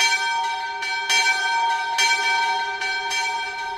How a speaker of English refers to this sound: about 30 feet in the air, the sound carries across the entire campus. So towards the end of every semester for the past 4 years, just as the burden of major projects and final essays starts to feel unbearable, I start hearing the bell.